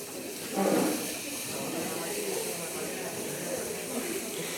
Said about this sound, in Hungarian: cseppfolyós nitrogénnel megtöltjük az edényt